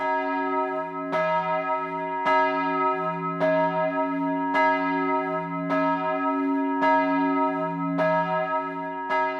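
A church bell in Soglio, Val Bregaglia, dating from the early 1700s, tolls steadily, about eight strokes at even intervals, each ringing out with a rich, sustained hum that overlaps the next strike. No voices are present.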